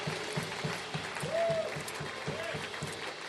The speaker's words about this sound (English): Come on, let's give those people a huge round of applause.